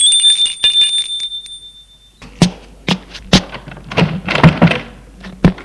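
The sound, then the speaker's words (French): A bright, high doorbell rings steadily for about two seconds at an apartment door in an upscale building on rue de Grande-Bretagne, then cuts off, followed by a run of irregular thumps and clunks with no one speaking. “Il sonne à sa porte.”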